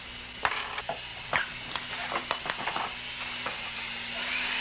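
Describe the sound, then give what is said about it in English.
A small power tool whirs steadily while fixing a mainspring problem and removing rust, a constant hissing drone and low hum, while sharp little clicks and taps come and go irregularly. No one speaks. “He turns off the power tool.”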